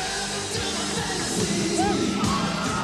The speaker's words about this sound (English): Tonight, more than 1,000 screaming women did live out their fantasy at Memorial Auditorium.